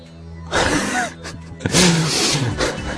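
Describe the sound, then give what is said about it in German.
Two bursts of loud rustling and clattering as someone rummages through a cupboard, with a sharp knock between them and a low, growly undertone. “Zumindest wühlt es jetzt hier gerade im Schrank hinter mir.”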